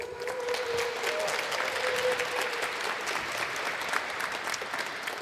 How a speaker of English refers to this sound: Please welcome him with a big round of applause.